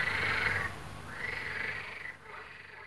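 frogs croaking

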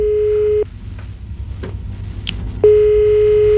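telephone dialing tone

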